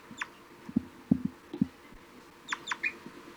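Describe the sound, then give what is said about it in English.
A bird gives a few short, low toop calls in a loose irregular series, responding to another bird's flight call, soft and hollow, mixed with brief higher-pitched chirps from other birds. “3-3 responding with a few toops.”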